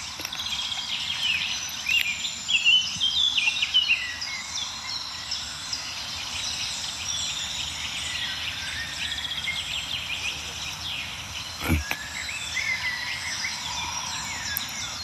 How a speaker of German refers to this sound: Ja, wir hören so einen milden Amselteppich noch um uns herum, also so einen Klangteppich aus verschiedenen Amseln, die von weit oben singen.